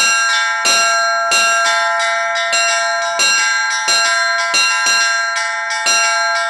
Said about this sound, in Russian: Мастер-класс по колокольному звону в этот день пользовался особой популярностью. Получить несколько уроков от профессионала стремились и дети, и взрослые. Вот этой рукой делаете частые удары.